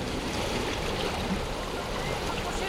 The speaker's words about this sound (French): Parlez plus fort! Le bruit du vent couvre vos paroles!